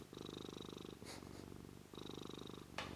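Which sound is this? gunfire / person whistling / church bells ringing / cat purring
cat purring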